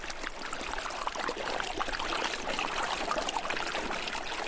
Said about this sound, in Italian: Poi invece la grande curva e la marcia inizia verso sud. Ed eccolo qua, il suono, la voce del primo fiume.